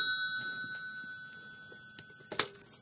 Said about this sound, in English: Oh, what's that? Somebody on the phone? Wait.